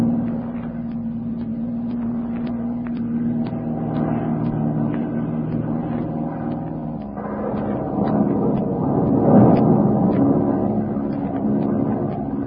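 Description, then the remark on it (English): The engine of a small, underpowered airplane drones steadily in flight, a low throbbing hum with a rough, strained edge that swells louder for a few seconds near the end before settling back. “This plane is too underpowered to climb above it.”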